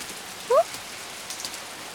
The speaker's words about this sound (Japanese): こう大雨じゃ商売やがったりよ。もう今日は早じまいにするかね。 この雨、止む様子がないです。はあ、雨宿りなんて久しぶり。